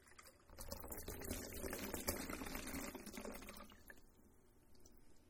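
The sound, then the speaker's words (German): Liquid is poured steadily into a glass, a dense, bubbling splash that runs over the rim for a few seconds before tapering off into quiet dripping. Fairly loud, with no talking. “Dieses Überfließen und nicht nur so vollfließen, dass es in mein Leben reinfließt, dass es mich voll macht, dass es mich zufrieden macht”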